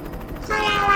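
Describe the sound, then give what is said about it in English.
A train at a nearby station under an overcast sky: a low rumbling with a faint rhythmic pulse, then a sustained, steady high whine rising over it, fairly loud and continuous. “Somewhere nearby may be a provider train station.”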